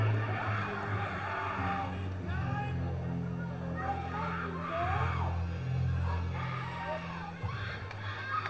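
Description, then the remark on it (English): A dense baseball stadium crowd at a Lugnuts game roars and shouts continuously, many overlapping fans yelling loudly at once over a low, steady rumble, with no single speaker standing out. “There have been fans here who've spent the entire game shouting at the top of their lungs.”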